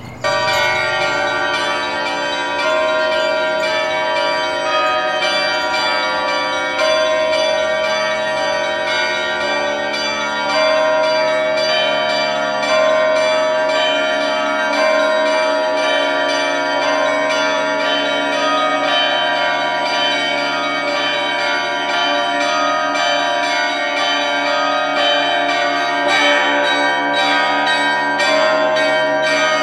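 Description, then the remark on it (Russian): A festive Russian peal (trezvon) of ten church bells, with the zvon, podzvon and blagovest bells all rung together as one ensemble, rings out for the full length: dense overlapping strikes and long humming resonance at a steady, loud level, with no voices. “Давайте соберем все колокола, все 10, и зазвонные, и подзвонные, и благовестники в единый ансамбль.”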